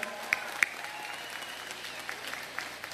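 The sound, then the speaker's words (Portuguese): Steady applause from a conference audience for President Luiz Inácio Lula da Silva, a dense wash of many hands clapping at moderate volume for the full stretch, with a few sharper claps standing out near the start. “Uma salva de palmas ao presidente Luiz Inácio Lula da Silva.”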